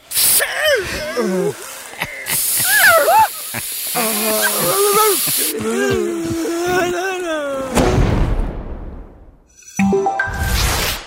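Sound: aerosol spray can hissing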